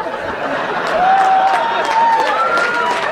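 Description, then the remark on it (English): An audience claps steadily for about three seconds, a dense rattle of many hands at a fairly loud, even level, with a thin whistle-like tone rising through the middle. “Don't clap him.”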